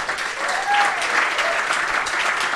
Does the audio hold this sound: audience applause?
yes